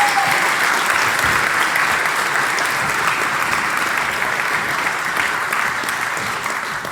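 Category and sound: crowd, audience applause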